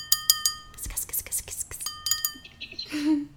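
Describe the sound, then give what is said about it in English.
Three quick, bright clinks of wine glasses ring out together in a toast, followed by soft rustling and hushed, whispery voices as the tones fade. “But, so I just poured myself a glass of wine, so everyone, cheers, and welcome to season two of the Amarillo Project.”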